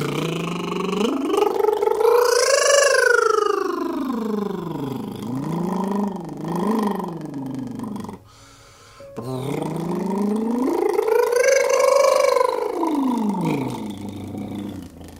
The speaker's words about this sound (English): Let's do some more tongue and lip trills at the same time with voice. And let's just go up and down a little bit. You can imagine it's like revving a motorbike.